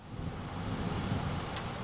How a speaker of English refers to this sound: What's the weather like? It's rainy, windy, and cold.